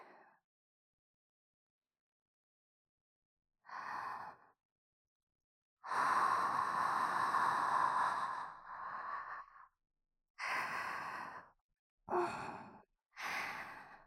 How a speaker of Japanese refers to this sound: 熱い吐息、お耳にいっぱい吹きかけちゃいます。こうしてお耳を温めて、敏感さんにしちゃうんです。